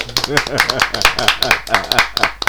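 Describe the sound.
A group claps loudly for the microphone with steady, dense, sharp hand claps for a couple of seconds, while several voices call out and talk over the applause.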